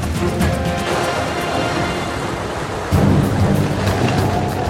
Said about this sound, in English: In the desert landscapes of Earth, you have occasional cloud bursts where it rains very hard and the water rushes through the dry valleys.